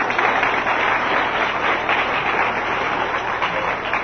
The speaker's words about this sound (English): Give him a great big hand clap. Amen.